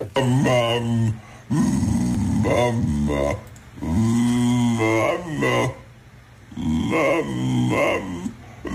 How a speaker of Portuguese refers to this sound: Nós queremos que nos digas o que é que este cão está a dizer.